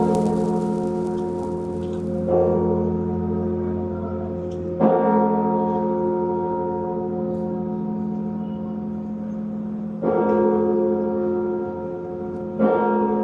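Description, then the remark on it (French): A great bourdon church bell tolls with deep, sustained resonance, struck about four times at slow, uneven intervals, each blow swelling the loud, humming ring that never fully fades. Its clapper alone weighs 500 kg and is swung by a pedal system, with a pedal on each side worked by four men, eight men in all. “Le bourdon, l'âme et cette gardienne des cloches.”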